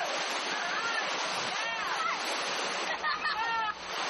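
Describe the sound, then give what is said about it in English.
Loud, steady rushing water pours continuously down a natural rock water slide in Fiji as Fijian children slide down it in a line, with a few brief high-pitched shouts and voices rising over the roar. “They're far too active to sit, so they surf the water slides.”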